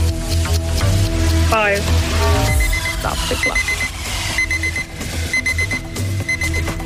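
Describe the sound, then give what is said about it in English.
A loud alarm clock rings continuously as a quiz time-up signal, a rapid metallic jangle filling the whole stretch alone with no voices over it, a dense buzzing clatter that never lets up. “That's the clock.”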